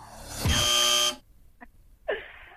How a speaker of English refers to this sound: Oh, buzzer's gone.